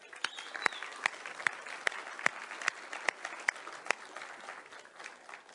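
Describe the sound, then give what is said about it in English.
A large church audience applauds the kids steadily for several seconds, a dense wash of clapping with one pair of hands clapping sharply in an even, regular beat above the crowd. “But before we get started, as a way of all of us adults saying, kids, we love you, we cherish you, we think that God is doing something amazing in you, can we give the kids a round of applause?”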